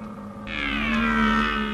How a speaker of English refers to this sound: They're sorting out who's who and trying to impress the hinds. Two stags confront each other with wide-mouthed bellows.